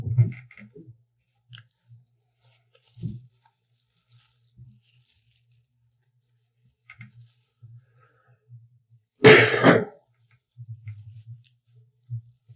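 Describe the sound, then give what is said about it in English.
A single loud, harsh cough from a person with a cold bursts out partway through, set against a quiet background of faint low thumps and soft clicks, with no talking. “did you get that cough since you came here?”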